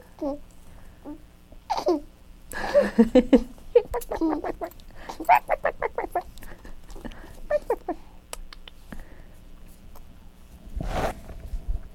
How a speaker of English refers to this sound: Is that chicken getting you? Did that chicken get you?